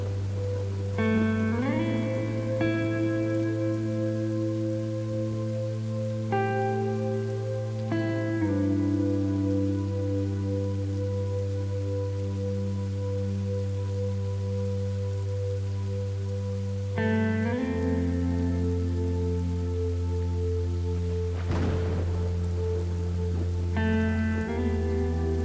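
Steady, soft rain patters continuously on grass beneath slow, sustained ambient synth chords that shift pitch every few seconds; no one speaks.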